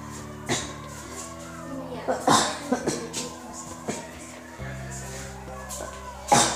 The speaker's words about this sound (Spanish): Estoy tosiendo un poquito de tos.